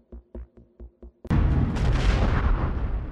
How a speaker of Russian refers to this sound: Когда производят взрывы для выемки угольных пластов, густые клубы удушающей угольной пыли покрывают все вокруг.